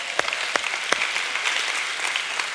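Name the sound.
audience clapping hands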